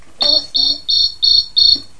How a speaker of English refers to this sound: And that's another cricket. It's very loud. Is it very loud? Ah. It was very loud, wasn't it?